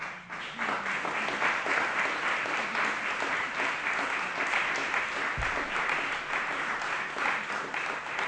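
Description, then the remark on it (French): An audience applauds steadily for several seconds, a dense, even wash of many hands clapping at a constant loudness with no single claps standing out. “Je trouve ça merveilleux, je voudrais qu'on vous applaudisse.”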